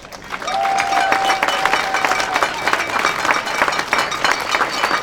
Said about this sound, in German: Einen ganz besonderen Applaus